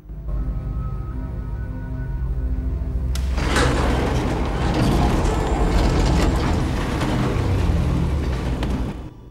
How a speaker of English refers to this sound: The elevator doors open and Father Adam stares out into the cell block.